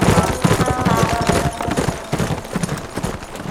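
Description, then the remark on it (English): Hoofbeats of several departing horses leaving a sleeping town at gray dawn, clattering at a quick, uneven trot, a dense run of overlapping clip-clops that keeps on steadily and eases slightly as it goes. “As the hoofbeats of their departing horses roused the sleeping townies”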